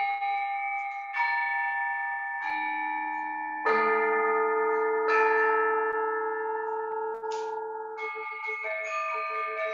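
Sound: gong strike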